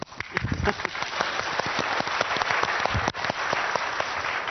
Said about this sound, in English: And obviously, if you clap less, we know you've just about enjoyed it.